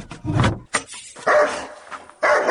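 A dog barks in a few loud, close bursts separated by short pauses, some sounding more like yelps than full barks, with no one talking.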